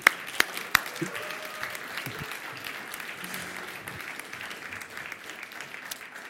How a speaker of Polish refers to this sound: Więc wielkie brawa.